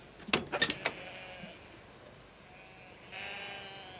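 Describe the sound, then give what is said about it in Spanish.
Goats at some shacks bleat in a quick cluster of short, wavering cries, then a longer drawn-out bleat follows after a pause, with no one talking. “Mira unas chabolas con cabras desde las cuales varios inmigrantes la miran.”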